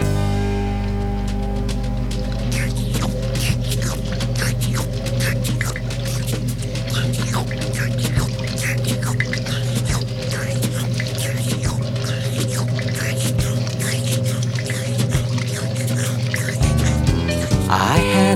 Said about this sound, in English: was a washing machine, a washing machine was I. I'd fill up with water, then I'd twist and turn and watch the clothes wash by.